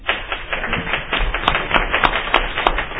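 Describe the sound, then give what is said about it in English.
People applauding to give unanimous approval to a nomination for Vice Chair of Internal Operations, a dense, steady patter of many hands clapping at once for a few seconds, moderately loud, with no voices over it. “Guessing by the applause, there was no opposition, so we're good.”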